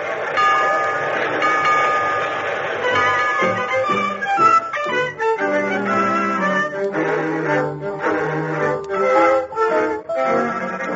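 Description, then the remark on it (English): A train departure sound effect for Let's Pretend: a sustained, multi-toned whistle chord gives way to rhythmic chugging and bright stepping tones, steady and fairly loud throughout, with no one talking. “All aboard for Let's Pretend and the youth who learns to shiver and shake.”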